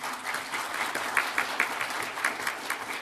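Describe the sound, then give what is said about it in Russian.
An audience claps steadily to welcome the creators at the presentation of the illustrated album "Blessed Narym. History of Orthodoxy in the Narym Region", a dense patter of many hands sustained for the full three seconds, moderately loud with occasional sharper claps standing out. “Сегодня здесь находятся его создатели, и мне кажется, нам всем вместе нужно поприветствовать их аплодисментами.”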